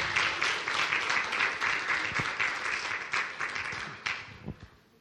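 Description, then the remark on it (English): A crowd applauds with dense, steady clapping that holds strong for several seconds, then thins and fades toward the end, with a few scattered individual claps. “Give her a clap.”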